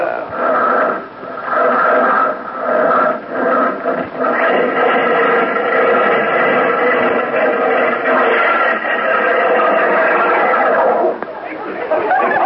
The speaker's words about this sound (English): how'd you like the sound of that Stutz Bearcat engine under the hood there? You know what? It sounds like the bear's trying to claw its way out to me. Tell me this. How come it stalled like that?